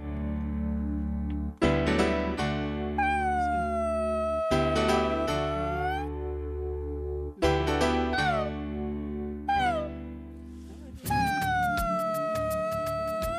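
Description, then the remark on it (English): Whale song: several long, moaning calls that swoop and slide in pitch, layered over a deep, steady rumble. Loud, with no voices. “Where's my whale music?”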